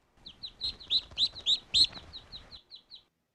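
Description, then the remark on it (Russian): Birds chirp in a quick series of high, bright notes that swell louder in the middle and then fade away as the birds fly past. No one is talking. “Маленький мышонок с завистью смотрел на пролетающих мимо птиц.”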